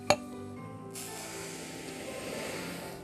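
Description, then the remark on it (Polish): A sharp clink of a dish, then a steady, soft granular hiss as half a glass of salt is poured into a bowl, continuous for a couple of seconds. “To była sól.”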